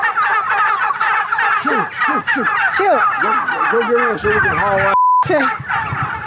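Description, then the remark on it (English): A flock of heritage breed wild turkeys in a pasture gobbles loudly and continuously, many birds calling over one another in a dense chorus, with a brief cutout near the end. “then we visit the laying hens, the geese, and the heritage breed wild turkeys, all pecking freely around the pasture.”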